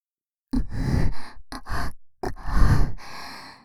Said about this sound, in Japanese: こうやって、耳に吐息を浴びせながら、感度を高めていくんだ。